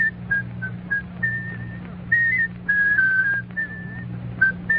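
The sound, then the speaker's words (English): A person whistles a bright, bouncy tune, the melody moving in short phrases and held notes over a low steady hum in the background. “Oh, now, can you whistle it?”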